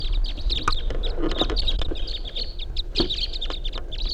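A flock of five birds flies right over a truck, calling in a rapid, overlapping chatter of high chirps and clucks, steady throughout, with a few sharper calls standing out over a low rumble.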